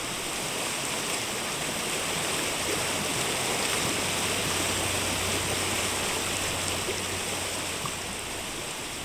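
A fast, swollen brook in flood just off Primrose Lane rushes in a steady, dense roar like white noise, carrying debris and broken branches past at full speed, loud and unbroken throughout with no letup and no voices.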